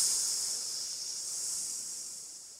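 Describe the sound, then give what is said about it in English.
A person imitates a snake with one long, steady hiss lasting a few seconds, sharp and breathy and fairly quiet, with no talking around it. “Turned into a snake there at the end.”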